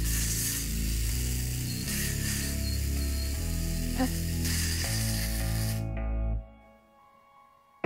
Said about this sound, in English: Have you ever sharpened a pencil with a chainsaw before?